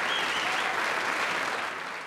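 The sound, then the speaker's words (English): A steady round of applause from many hands for frontline workers, dense and continuous at moderate volume, tapering slightly toward the end with no voices over it. “And to all the people who listen to Authentic Real English who are frontliners, a round of applause.”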